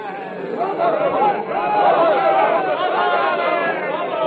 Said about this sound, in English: There is a slight movement in the crowd,